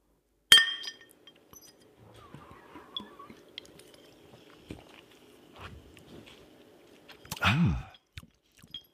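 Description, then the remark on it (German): Glasses clink once in a toast, a single bright, ringing chime at the start, followed by quiet handling noises and a brief louder rustle near the end. “So, dann Prost, ne? Ja, Prost.”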